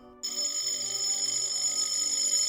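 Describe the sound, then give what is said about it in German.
A front doorbell of a house rings insistently at night, a loud shrill electric jangle that starts abruptly and holds without pause, with a faint low pulsing hum underneath. “An der Tür klingelt's, das Tuscheln auf dem Flur wird heftiger, das Klingeln an der Haustür dramatischer.”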